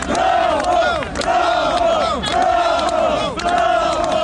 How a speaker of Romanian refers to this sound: ci a așteptat-o pe Maia Sandu în Palatul Prezidențial, unde aceasta a ajuns după mai multe băi de mulțime, printre simpatizanții care au ieșit cu salutări.